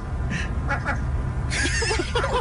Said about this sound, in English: The seagull sounds like a dog.